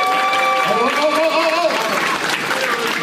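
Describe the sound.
An audience claps steadily for about three seconds, a dense, loud wash of applause with a few voices and cheers rising over it before it starts to thin.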